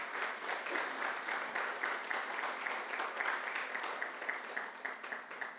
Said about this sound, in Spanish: Quiero que se ponga de pie, por favor. Y poniéndote de pie, dale un fuerte aplauso a la palabra de Dios.